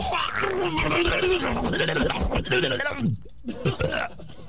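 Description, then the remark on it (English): A voice imitates loud, guttural retching and vomiting, with throaty heaves and growls running almost continuously before a brief pause and a final gag. “When do a good clean vomit.”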